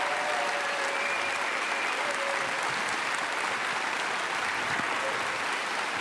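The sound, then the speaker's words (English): A crowd at James River church applauds steadily for several seconds as Pastor Dino Rizzo comes to the platform, a dense, even wash of clapping that stays loud throughout with no talking over it. “But would you give a hand for Pastor Dino Rizzo as he comes to the platform this morning?”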